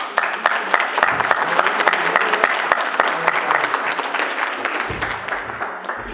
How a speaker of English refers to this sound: I'm going to start calling names as soon as the minute's up, so if you don't hear because of applause, it's not going to be my fault.